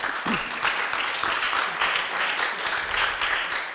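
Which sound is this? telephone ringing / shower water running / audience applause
audience applause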